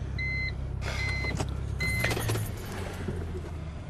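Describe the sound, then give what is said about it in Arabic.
A car engine idles steadily with a low, constant rumble, while keys jingle and clink in bursts and faint high tones ring briefly near the start; no one speaks. “ما عاد في شي لنا هون. قلت لك طفي السيارة.”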